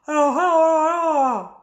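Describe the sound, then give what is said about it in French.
A small girl, upstairs shut in with her father, cries out in one sustained, wavering wail lasting over a second, with a slight dip in pitch early on and a falling tail, loud and alone with no talk. “Voilà, excusez-moi si de temps en temps vous entendez la petite, mais elle est en haut, pourtant enfermée avec son papa, et eh bien elle a quand même, je crois, envie de participer de loin, voilà, hein, désolée, mais avec le confinement”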